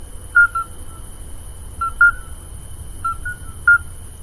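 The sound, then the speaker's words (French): Midwife toads (Alytes), small, plump grey toads with golden eyes, give short, pure piping notes at spaced intervals, some in quick pairs as if several callers overlap, clear against a quiet low background with no talking. The call resembles that of the Scops owl. “Tu as un chant caractéristique composé de cris brefs et espacés. Il ressemble aussi au cri du hibou petit duc.”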